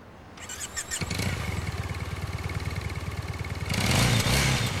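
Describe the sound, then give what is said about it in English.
A motorbike engine in Las Vegas cranks and catches, then settles into a loud rhythmic idle before the rider revs it up hard near the end. “He gives her a come-on look as he revs the engine.”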